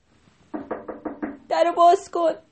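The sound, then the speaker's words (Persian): Five quick, evenly spaced knocks on a door, followed right away by a raised, urgent-sounding voice calling out in Persian to open the door quickly. “در زدن.”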